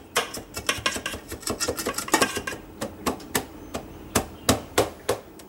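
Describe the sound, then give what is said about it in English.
Quick, irregular knocks and taps, then a steadier run of sharp clicks as the flat bottom of a glass repeatedly presses and tamps a crumb base flat in a pan. No one speaks. “And get something to flatten it down with. The bottom side of a glass like this, if it's flat, will do.”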